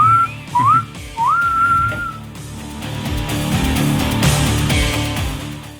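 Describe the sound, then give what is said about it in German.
A whistle is blown in a few rising and falling blasts to cut off a talking host, the last one long and sliding, before a dense wash of music and crowd noise from a live performance at the Kastanienrock festival 2023 takes over. “Pfeif jetzt mal ab, sonst hört er gar nicht mehr auf zu quatschen.”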